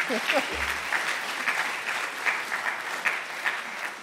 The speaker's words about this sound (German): Und deswegen vielleicht jetzt schon mal ein Applaus für diejenigen, die ehrenamtlich so eine Leidenschaft an den Tag legen und das Baseballcamp machen.